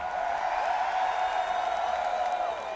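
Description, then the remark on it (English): An audience applauds and cheers steadily as names are read out, a dense continuous wash of clapping mixed with crowd voices and whoops, holding an even, fairly loud level from start to finish. “Applause as I say the names.”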